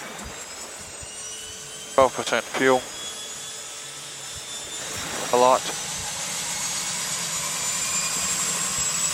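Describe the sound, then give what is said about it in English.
A seaplane's right radial engine turns over and drones steadily throughout, its high whine building slightly as it runs. A couple of brief spoken phrases cut in over the engine noise. “Right engine is turning.”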